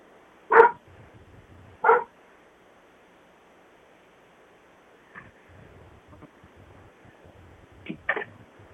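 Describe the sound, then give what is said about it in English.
A dog barks outdoors in loud, sharp single barks spaced a second or more apart, with a quicker double bark at the end, over a steady hiss of surf-like background noise. “You can't bark out here. You're ruining my show. You and your barking.”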